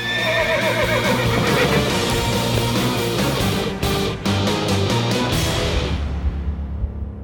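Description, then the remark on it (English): A black horse stands on its two back legs and lets out a loud, drawn-out whinny, its shrill voice wavering and rising over several seconds before tapering off, with no one speaking. “His black horse was standing on its two back legs.”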